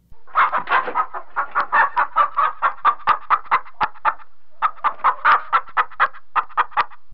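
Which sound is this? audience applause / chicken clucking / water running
chicken clucking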